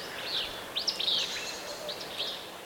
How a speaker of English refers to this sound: Now the raspy Fitzbew song of a willow flycatcher.